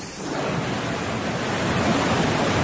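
A steady, dense roar of heavy rain and rushing water fills the streets of Málaga during an intense downpour that flooded homes, basements and garages; loud and continuous throughout, with no voices or distinct individual sounds standing out.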